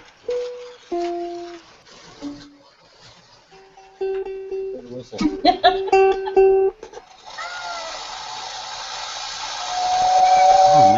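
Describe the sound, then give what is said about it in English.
A Lionel model steam train gives several short, shrill whistle toots at different pitches, then a steady rush of hissing steam builds and grows louder toward the end, with faint voices in the background. “what you got the train out? Come on.”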